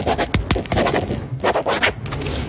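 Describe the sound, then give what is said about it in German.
A pen signs a document with the microphone held very close to it, in quick, energetic scratchy strokes: a rapid series of rough scraping bursts with short pauses between them, fairly loud, with no one talking. “Ihr hört mich jetzt unterschreiben.”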